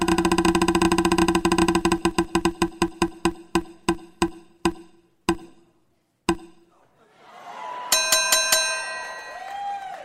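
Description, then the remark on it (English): A prize wheel spins with rapid, sharp clicks that gradually slow and space out until it stops, then a bright, ringing chime bursts out and sustains to the end. “Let's spin the wheel.”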